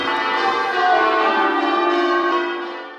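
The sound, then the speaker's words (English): Church bells peal together in a rich, ringing wash of overlapping tones that hum on steadily, then slowly begin to fade, with no voices present. “Although we're also led to believe that it's the peal of church bells that keeps trolls away these days.”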